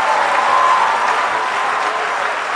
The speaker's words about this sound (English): Clap your hands and shame the devil in the house.